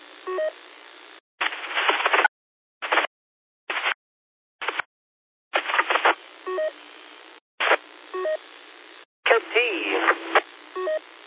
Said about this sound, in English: Because usually those, you know, that's all DTMF touchtone stuff. Usually they pick that up pretty good. You know, better than we hear it.